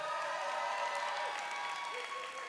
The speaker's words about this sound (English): I hear people applauding out there.